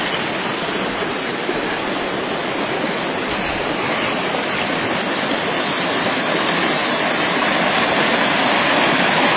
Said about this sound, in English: Waterfalls. This is what you get to see when you come up here and stay a few days with us and hear God's Word preached, and get to go on little field trips to see different, very unusual things.